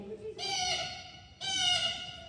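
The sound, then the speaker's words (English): A person's voice imitates a blue jay call: two harsh, nasal, sustained screeches back to back, fairly loud, with no other talking. “This is a blue jay.”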